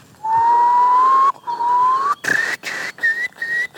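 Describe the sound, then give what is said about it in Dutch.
A person whistles an imitation of a curlew call: long, slowly rising tones followed by shorter, higher broken notes, with breathy hiss around the clear pitch. “Doe eens een wulp.”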